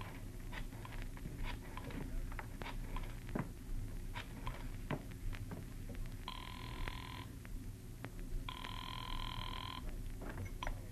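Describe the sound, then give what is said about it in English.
A telephone rings twice in steady, trilling bursts with a brief pause between, clear against a constant low rumble and scattered crackling patter; no one speaks. “And as I got to the phone, I knew that whatever else he was, the old sea dog was no liar.”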